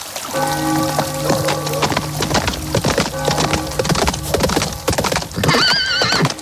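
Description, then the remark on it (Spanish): The horses of four riders clip-clop along the bank of the river Seine in Paris, a rapid, uneven stream of sharp knocks, with a steady low hum underneath and a high, wavering whinny breaking in near the end. No one speaks. “Este libro que tengo en mi mano, Misión en París, arranca siguiendo a cuatro jinetes a la vera del río Sena.”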